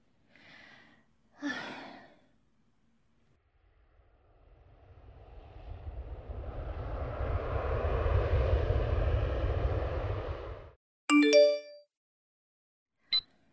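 A couple of breathy sighs, then an airplane engine roar swells for several seconds, heavy and rumbling, before cutting off abruptly into a short bright chime-like tone.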